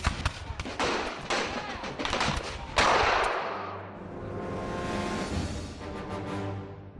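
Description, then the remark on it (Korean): A ragged volley of gunshots from colonial American troops firing at British soldiers coming up a hill cracks out in quick succession for about three seconds, then a heavy boom rolls away into a long fading rumble and echo. “아메리카 군대는 다시 총을 쏘았습니다.”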